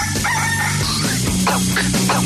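A rooster crows loudly, its strained, rising-and-falling call repeating in short bursts over a dense, steady background of other sound.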